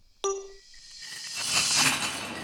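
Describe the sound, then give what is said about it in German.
A sharp metallic clang rings out near the start, followed by a rising wash of loud, dense industrial noise with rattling and clattering from heavy machinery in the production area of a glass recycling plant, where glass is ground very fine in a mill. “Jetzt gehen wir dann durch die Schleuse rein in die Produktion. Sonst stehen wir dann eh kein Wort mehr”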